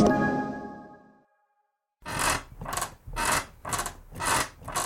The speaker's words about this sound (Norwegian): Slutt å forstyrre naboen med den knirkete senga di.